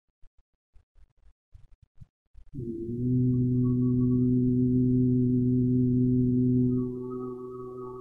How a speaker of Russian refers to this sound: Вместе со звуком активируется целительная сила наших ладоней. Продолжаем гудение.